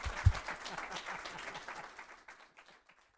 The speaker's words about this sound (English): Ladies and gentlemen, a round of applause for our guest, Alan Bierman.